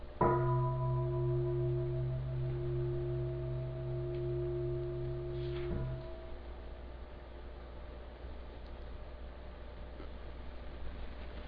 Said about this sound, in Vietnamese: Thỉnh chuông cũng phải biết thỉnh chứ không phải tự nhiên thỉnh nha. Theo sư phụ bấy lâu nay đó mà rồi không có biết thỉnh chuông. Khi thỉnh chuông là phải nhịp cái chuông cho nó mạnh, rồi mình thỉnh.